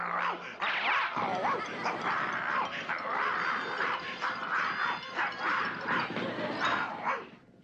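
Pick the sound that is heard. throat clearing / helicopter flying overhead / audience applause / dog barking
dog barking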